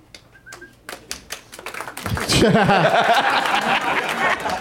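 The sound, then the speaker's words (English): A light smattering of scattered claps from a small group celebrating an obvious correct quiz answer (the film Knocked Up), sparse at first, then joined by a swell of chatter and soft laughter that fills the rest of the moment. “Smattering. That's the applause you get when everybody's just celebrating a crazily obvious answer.”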